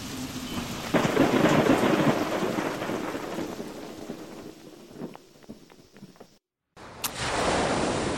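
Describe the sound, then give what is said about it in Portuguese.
A thunderstorm over an island with heavy rain pouring steadily, a loud rumble of thunder swelling early on, scattered drips and cracks, then a brief silence before the downpour resumes. “Os homens esperam até a tempestade passar e o sol forte invade a ilha.”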